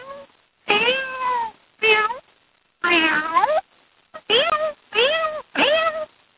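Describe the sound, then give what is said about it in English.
A human voice imitates a cat, giving six drawn-out meows in a row with short pauses between them, loud, with no other sounds around. “Or maybe the kitty cat.”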